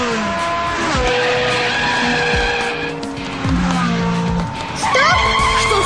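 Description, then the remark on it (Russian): A car engine in a computer driving game revs and shifts pitch as it speeds up, with tires squealing and skidding through left and right turns and hard braking, loud throughout. “Димыч, газуй! Полный вперед! Нет, поворачивай налево! А теперь крути руль вправо!”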